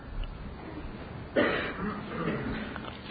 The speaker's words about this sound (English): excuse me. I thought you were coughing for me there.